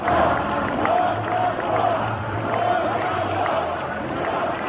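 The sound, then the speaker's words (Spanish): A large crowd of separatist supporters applauds, shouts and cheers continuously for Carme Forcadell at her entrance to the Palace of Justice, a dense, loud wall of voices with some chanting rising through it, sustained for the whole stretch with no pause. “Aplausos y gritos como este que escuchan.”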